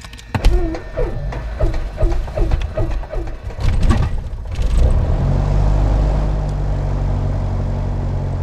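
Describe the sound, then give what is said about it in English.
The piston engine of a Piper Archer II aircraft cranks at Great Barrington Airport in Great Barrington, Massachusetts, with a rapid run of rhythmic clicks and whines, then catches and roars into a loud, steady, low-pitched propeller drone. “Okay, now we're going to start the engine.”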